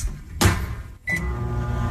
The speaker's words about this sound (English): She put the food in the microwave for 3 seconds.